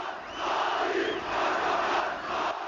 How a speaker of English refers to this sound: 2002, I was in Ankara when the AKP won a stunning election victory. Erdogan, Prime Minister, shouted the crowds.